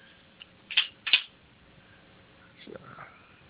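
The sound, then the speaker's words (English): Cards being shuffled: two quick, crisp papery snaps about a third of a second apart, then a softer rustle of handling, with faint low murmuring underneath. “Let me go ahead and shuffle the cards really quick here, and let's see what the cards have to say, okay?”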